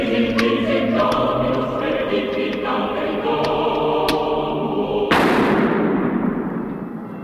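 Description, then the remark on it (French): A few sharp carbine gunshots in a film crack at uneven intervals over sustained orchestral music, followed by a much louder, heavier shot that booms and fades out. “Après ces coups de feu, le film se conclut par une scène où l'on voit le patriarche Brazé assister tranquillement à une partie de tennis avec son clan.”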